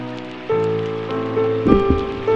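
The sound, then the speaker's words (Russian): Steady rain falls throughout, a constant hiss with a few brief louder patters, mixed with sustained tonal humming that shifts pitch partway through. No one speaks. “Что же мы вот так стоим под дождем?”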